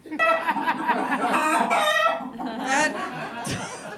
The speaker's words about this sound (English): I feel like that was a long one. Yeah. That chicken really got something off its chest.